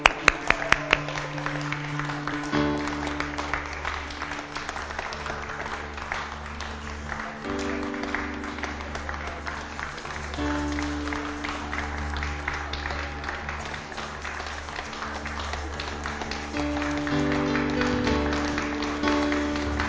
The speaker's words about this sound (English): So let the parade begin. One at a time, please. Let's see you. We can give them a clap if you like.